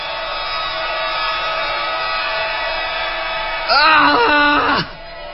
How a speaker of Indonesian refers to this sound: Setelah beberapa saat, akhirnya aku bisa mengeluarkan suaraku. Aku langsung berteriak sekencang-kencangnya.